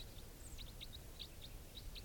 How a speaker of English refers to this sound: Four thirty-three. And some wild birds are flying over.